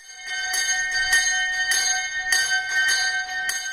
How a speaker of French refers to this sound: à cette époque-là, ils utilisaient un sablier qui était retourné et au bout de l'heure, la cloche était sonnée.